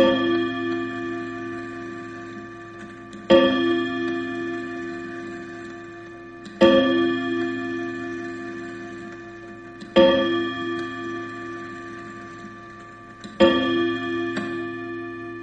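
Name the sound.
clock ticking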